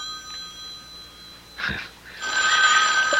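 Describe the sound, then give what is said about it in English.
A telephone bell rings loudly and continuously through the second half, after a quieter stretch with a faint steady tone and a brief muffled bump. No one speaks. “Well, Mrs. Greenway, aren't you going to answer it? Answer? The phone.”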